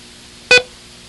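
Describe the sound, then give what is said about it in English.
A single short electronic code beep in a listening exercise of long and short beeps, a bright, buzzy tone with strong harmonics lasting about a tenth of a second, then quiet. No one speaks. “This time take your pencil and write dang, D-A-N-G, for a long sound, and it, I-T, for a short sound.”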